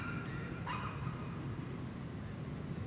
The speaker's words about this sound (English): I hear a dog in the distance and another dog approaching the dog.